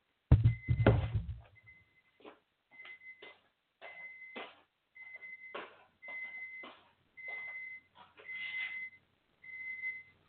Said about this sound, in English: Do you guys hear that? That is my stew done. I'm making stew for my wife and myself, and it is beeping that it is done. Hopefully it'll stop in a second.